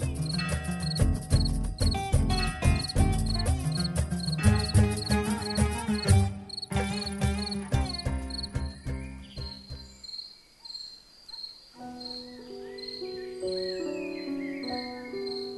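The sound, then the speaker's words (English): A cricket chirps in a steady, high-pitched pulsing rhythm that runs throughout, mixed with layered instrumental music that thins out midway before resuming more softly. “And I shall have some peace there, for peace comes dropping slow, dropping from the vales of morning to where the cricket sings.”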